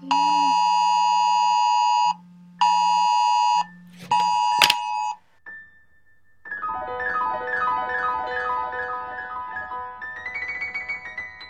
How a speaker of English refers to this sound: At about 3 o'clock on a recent Wednesday morning, I was sound asleep when my phone went off. I mean, it went berserk.